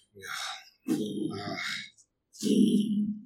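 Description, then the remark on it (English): A voice imitates a giant kaiju's foot stomps going off as it moves farther away to the north of the city, making three low, rumbling grunt-like bursts about a second apart, each a heavy, breathy thud with a gritty hiss on top, the pitch lowering as it goes. “just kaiju-esque foot stomps going off, but they are, the Doppler is lowering on them as they go farther away.”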